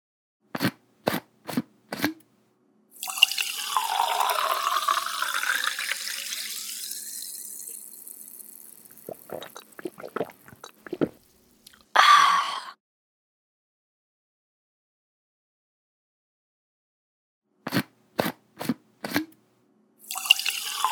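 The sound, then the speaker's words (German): A lemonade bottle is opened with a few quick clicks, then liquid pours into a glass in a long fizzing stream that rises in pitch, followed by scattered ticks and more short clicks. No one speaks. “Hier habe ich eine Limonadenflasche geöffnet, in ein Glas geleert und getrunken.”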